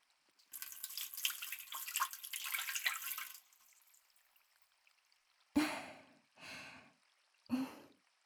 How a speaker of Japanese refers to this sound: まずは軽く、お湯で流しますね。